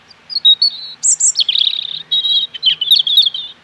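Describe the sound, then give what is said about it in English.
A robin sings a quick string of high, clear warbling phrases, sweet notes and thin trills tumbling one after another, bright with no other sounds around it. “One of the great pleasures throughout the year is hearing robins, usually in my case, singing on lampposts.”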